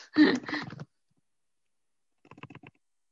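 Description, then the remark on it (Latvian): A short burst of noise, then after a pause a quick run of about half a dozen light keyboard taps, fairly quiet, with no talking. “Es rakstu. Ā, tu rakstīji.”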